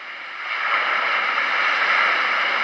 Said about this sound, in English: More ocean.